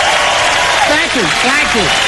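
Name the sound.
crowd applauding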